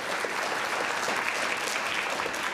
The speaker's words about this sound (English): And then we have Ainsley Lewis from Willowind, but Ainsley was not able to join us, but we can still give her a round of applause.